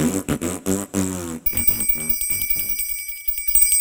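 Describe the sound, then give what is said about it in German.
A voice speaks, then a small bell starts ringing with a bright, shimmering, sustained tone that keeps going to the end, at first under the continuing voice and then alone. “Oh weh, die Glockenblume bimmelt.”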